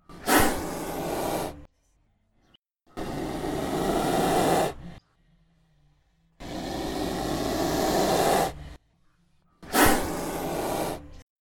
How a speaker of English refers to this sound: It's air being pushed over that glottis. So we're going to listen to here the sound of a cobra hissing. And that's all the sound from the glottis. And it's this weird growly sound.